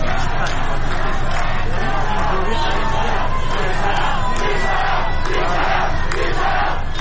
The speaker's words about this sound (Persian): در تهران در محله سعادت آباد معترضان گرد هم آمده و اعتراض خود را با سر دادن شعار و به صدا درآوردن بوق خودروها نشان می‌دهند.